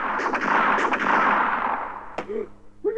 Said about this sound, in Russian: Курочкин выхватил из-за пазухи пистолет и принялся стрелять во все стороны.